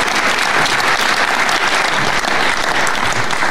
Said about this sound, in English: It's Andy Cole. Can we have some applause, please, for a treble winner? Thank you.